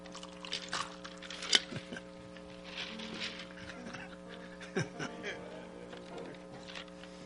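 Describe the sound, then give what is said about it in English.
Water being poured into a glass for a drink, a soft trickling splash that runs for several seconds over a steady low hum and faint background murmur. “I want to get me a little drink of water here.”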